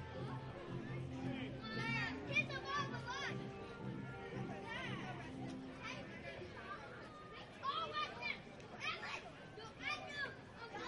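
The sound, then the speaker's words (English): High-pitched children's voices, picked up by the crowd microphone dangling over their heads at a baseball game, chatter and squeal over a steady crowd murmur, with excited bursts rising and falling throughout and a livelier flurry toward the end. “You can hear some kids have discovered the crowd mic dangling over their head.”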